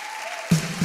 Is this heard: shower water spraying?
no